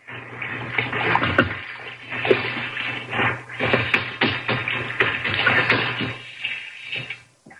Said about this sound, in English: There's the sink. Some hot water. There, that's it. Wash rag around the sink bowl.